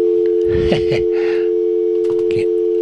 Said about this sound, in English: If nothing more, the dial tone tells me to turn the switches to off and open the lines again.